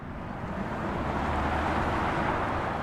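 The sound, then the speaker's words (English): A steady, broad roar of an airplane passing overhead above a neighborhood, holding at an even level throughout with a low rumbling undertone and no voices. “The airplanes above the McHugh's neighborhood aren't loud enough to physically damage your ears.”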